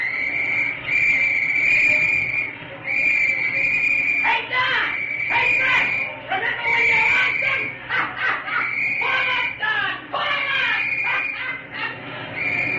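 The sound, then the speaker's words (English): A shrill chorus of many penny whistles blown at once by players in the Athletics' baseball dugout in Philadelphia at pitcher Don Brush, holding piercing high tones with brief breaks and choppy, fluttering bursts in the middle, fairly loud, with a faint murmur of voices beneath. “He started the first game there, and the boys in the dugout started blowing penny whistles at him.”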